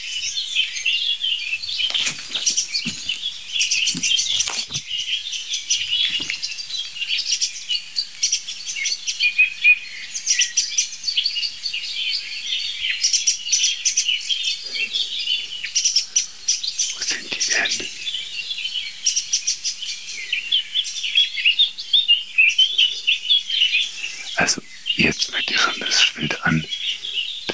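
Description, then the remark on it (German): A song thrush sings loudly and continuously in varied bright phrases, with a blackbird's lower, mellower song behind it throughout. “Das ist alles Singdrossel, dahinter ist die Amsel. Das ist tiefer als die Singdrossel.”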